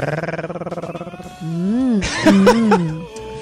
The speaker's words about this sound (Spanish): Suaves ronroneos, por favor.